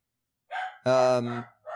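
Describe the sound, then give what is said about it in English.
A dog barks in a quick series of three short barks, the middle one longer and louder, with no talking around them. “There's another dog just started barking.”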